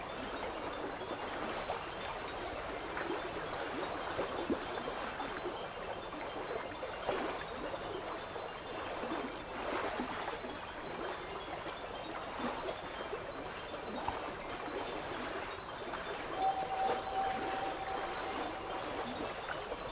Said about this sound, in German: Das Fliessen und Sprudeln vom Wasser reinigt und klärt dich und bringt dir tiefe Entspannung.